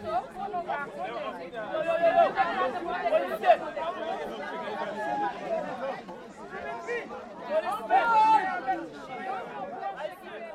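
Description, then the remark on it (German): Lively, overlapping chatter from several school classes of children sitting before the mighty walls of a citadel at the end of an uphill climb, a steady cheerful hubbub with brighter shouts and laughs rising out of it now and then. “Durch üppiges Grün windet sich der Weg hinauf, bis fröhlicher Lärm das Ende des Aufstiegs ankündigt.”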